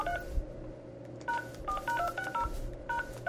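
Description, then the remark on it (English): A quick, uneven run of short telephone keypad DTMF beeps, each a clean two-tone chirp, follows an opening pair of tones, all over a low steady rumble with no talking. “And anybody that has, like, encryption type stuff, you can take this, these little beep, beep, beep, beep and figure out what he's saying.”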